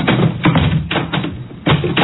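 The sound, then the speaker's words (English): A revolving door turns with a series of soft, muffled thumps and swishes at a steady, uneven rhythm, fairly loud, with no voices. “Revolving door.”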